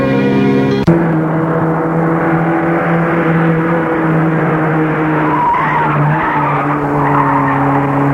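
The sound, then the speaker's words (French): A car engine roars loudly and steadily as the vehicle speeds away, with a sharp knock near the start and a strained, screeching edge suggesting tires skidding. No voices. “Dehors, il va vers la voiture. L'ouvre et part.”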